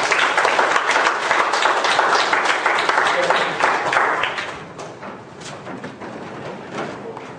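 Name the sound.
audience applause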